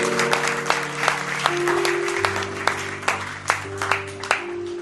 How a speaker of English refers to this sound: Amen. Hallelujah. Clap your hands again for Jesus if you don't mind.